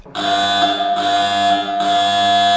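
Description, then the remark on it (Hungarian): A mine shaft cage start signal, long and short like Morse code, telling the winding-engine house that the cage may start: a loud, harsh buzzing tone with many overtones sounds for over two seconds, briefly dipping twice so it falls into three segments. No voices are heard. “Ez volt az indításnak a jelzése? Hosszú és rövid, mint a morze.”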